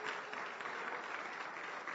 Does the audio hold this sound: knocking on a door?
no